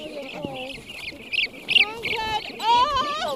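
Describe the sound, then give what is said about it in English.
A flock of molting brant geese, mostly unable to fly, honks and calls in a dense, overlapping chorus as a team of biologists rounds them up into three separate pens, with short nasal cries and rising squawks jostling over each other amid a busy rustle, as people speak. “start rounding up the birds and dividing them into three separate pens.”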